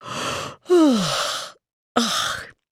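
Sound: yawn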